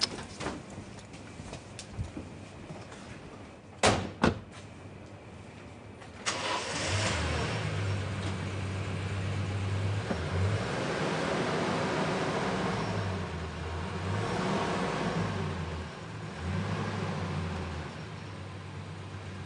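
A car engine cranks without catching: a few sharp clicks, then a long, steady grinding whir with a rhythmic low pulsing that keeps stopping and starting and never settles into an idle.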